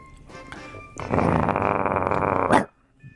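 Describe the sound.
A person imitates a dog barking with one loud, rough, growly bark-like sound held for about a second and a half, then stops abruptly.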